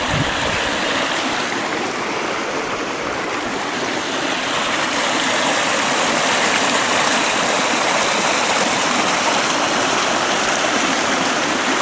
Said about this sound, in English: There is the creek running along here.